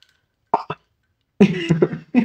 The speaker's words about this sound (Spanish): Ay, hipo.